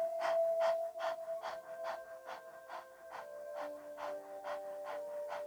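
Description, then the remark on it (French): Rapid, shallow panting breaths, about a dozen quick puffs in an even, steady rhythm, over a soft, sustained musical drone, during a guided 'little dog' breathing exercise. “Au travers de la respiration du petit chien, sens ton énergie qui descend.”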